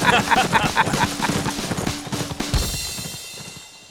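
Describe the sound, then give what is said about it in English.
Three horses with riders swing around and gallop off through the woods, their fast, overlapping hoofbeats pounding in a dense rhythm before trailing away and fading out at the end. “All three of us swung our horses around and tore out through the woods.”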